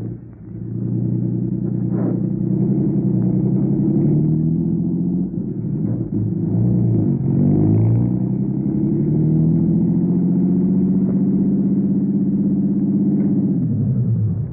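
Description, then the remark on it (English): A car engine drones steadily as the vehicle drives to a rooming house on Garfield, a low continuous rumble with harmonic bands that rise and fall slightly with speed shifts, then settles near the end. No talking. “Okay, my car's downstairs.”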